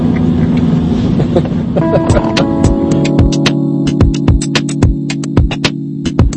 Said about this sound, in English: Auto driving. There we go. Away we go.